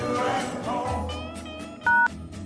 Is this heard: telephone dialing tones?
yes